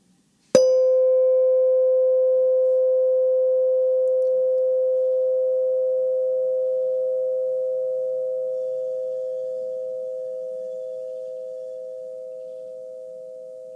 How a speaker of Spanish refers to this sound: Volverás a escuchar la campana. Date cuenta del momento en el que dejas de escuchar el sonido.